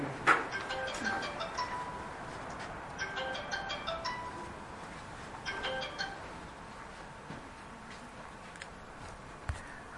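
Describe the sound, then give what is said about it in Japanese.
A phone rings with a short electronic ringtone during a Bible talk, its bright tones repeating in three quick bursts, clear but not loud, with no one speaking. “多分誕生日おめでとうと電話が来たのじゃないでしょうか。”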